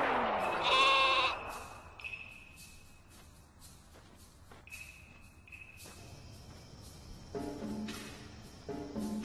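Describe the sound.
Someone imitates a sheep with a loud, wavering bleat at the start, followed by quieter sounds and a couple of shorter, lower bleat-like calls toward the end.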